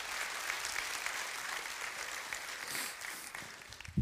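A crowd claps steadily for several seconds, a dense, continuous patter of many hands with no voices, holding an even level before a brief louder burst at the very end.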